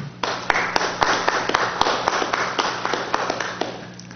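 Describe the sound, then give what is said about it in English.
An audience at a council meeting applauds for about four seconds, honoring the police department, Cal Fire, San Luis Obispo Fire and PG&E for putting out a fire. A dense wash of many hands with sharper individual claps popping out irregularly. A low, steady hum runs underneath, and no one speaks. “police department, Cal Fire, San Luis Obispo Fire, and PG&E, because they were the first ones on site, did an amazing job containing and putting out that fire, getting two people out and their pets safely, and they deserve our applause.”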